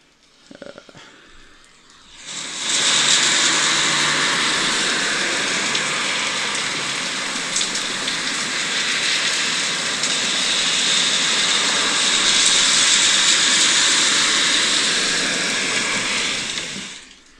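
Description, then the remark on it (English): After a brief quiet start, a loud, steady rushing hiss of cars passing on a rain-soaked road in heavy rain, about one car every 20 seconds, recorded through an open window, takes over, swelling slightly at times and holding without a break until it fades at the end. “Literally, there is a car. Probably about every 20 seconds.”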